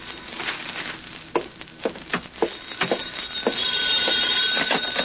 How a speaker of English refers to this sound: It was 11 o'clock that night when the telephone rang in my flat.